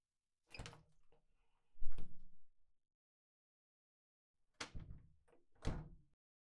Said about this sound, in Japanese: この辺にドアがあるから、それ、開けてみてね。